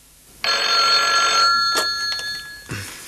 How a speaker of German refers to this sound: Und kaum waren sie dort angekommen, als das Telefon klingelte.